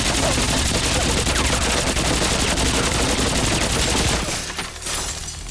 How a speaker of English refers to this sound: Quinn looks all around the office and then rakes it with fire.